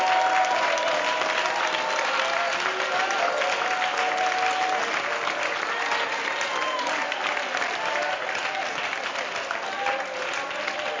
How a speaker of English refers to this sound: Let's clap our hands right now. Let's clap our hands right now. Come Come on, let's really clap our hands right now.